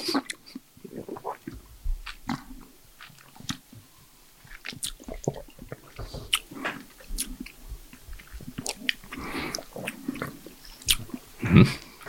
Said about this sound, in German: Wir schmatzen hier so alle vor uns hin, wundern uns über diesen Wein. Also wenn es still ist, ist es meistens gut.